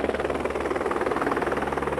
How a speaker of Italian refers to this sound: Appena sceso dall'elicottero